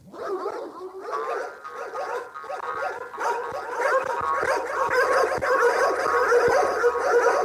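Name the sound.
dog barking and panting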